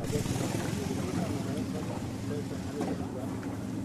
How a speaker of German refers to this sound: Träge treibt der Fluss durch den Amazonasdschungel. Rechts und links am Ufer dichter Regenwald. Das Boot tuckert durch einen der unzähligen Arme des wasserreichsten Stroms der Welt.